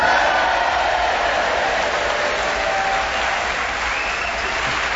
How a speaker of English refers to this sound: And as you can hear, we have a very quiet, subdued Hastings audience ready to cheer us on our way